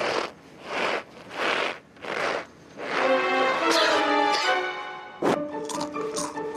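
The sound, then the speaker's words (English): Four evenly spaced crunchy squeaks of cornstarch being squeezed by a foley artist to imitate footsteps in snow, followed by a few seconds of sustained tonal sound. “If I were walking in snow, he'd use cornstarch.”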